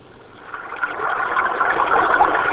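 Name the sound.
babbling brook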